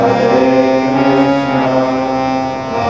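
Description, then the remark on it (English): A steady, low droning chant of the Hare Krishna mantra, sustained and rich in overtones, holding one pitch at an even loudness with no break for breath. “Slowly immerse yourself in the sound of the mantra, as if you go slowly into a river.”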